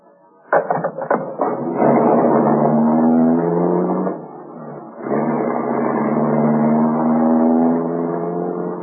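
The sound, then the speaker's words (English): A few sharp clicks, then a large limousine's engine revs up and it pulls away from the corner of Main and Hallard, driving away from the city center, its steady hum rising and dipping once before settling into a sustained drive, fairly loud, with no voices. “He turned the car away from the main center of the city, and we drove for a while in complete silence.”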